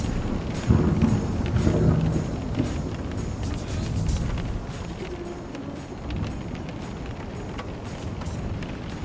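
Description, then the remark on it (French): Strong wind during a big storm roars steadily for the whole stretch, with loud gusts buffeting the microphone and a deep rumbling underneath; no one speaks. “C'est peut-être pour ça que vous entendiez le vent derrière.”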